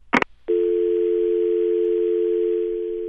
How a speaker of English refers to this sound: Same dial tone, the numbers make the same sounds, but after weeks of hearing about eavesdropping and the alleged collection of telephone records, you wouldn't be alone if those sounds got you thinking.